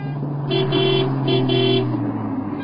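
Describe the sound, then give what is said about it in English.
A fast car rumbles along a street, its engine steady, while two short honks of a horn sound in quick succession. No one speaks. “Oh, I can't cross the street. The car is very fast.”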